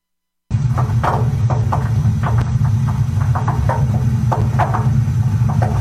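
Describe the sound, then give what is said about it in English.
An old water heater groans as it warms up, with a steady, throbbing low rumble while irregular creaks and ticks pop up over it for several seconds, with no voices. “Is your water heater making that noise again? You know, the way it groans and creaks when it warms up.”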